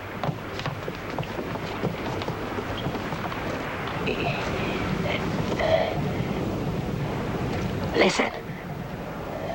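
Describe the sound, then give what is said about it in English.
A steady low rumble of the ship Macedonia's engines drones throughout, mixed with windy noise; a voice briefly speaks over it, and a short louder burst rises near the end. “He stopped her engines. But she's still a-coming.”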